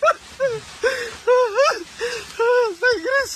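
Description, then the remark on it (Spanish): A person cries with emotion as a team of botanists finds a Rafflesia plant in flower, letting out a string of short, high, wavering sobs in quick bursts, fairly loud, with brief catches of breath between them. “Pero es que están llorando.”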